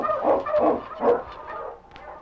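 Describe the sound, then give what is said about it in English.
A pack of husky sled dogs, being lined up to pull a sled, barks in a quick, excited flurry of overlapping yips and woofs, moderately loud, with no one speaking. “Get the dogs in line. On, King! On, Huskies!”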